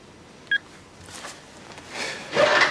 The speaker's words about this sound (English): In the staff room, Oliver scans through his address book to find Penny's number. He's about to call it when he switches off the phone and pockets it.